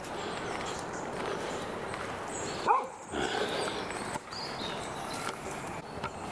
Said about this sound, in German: So, Hundevieh ist vorbei, das ist ein blöde Vieh. Ach, jetzt bellt's noch nicht mal.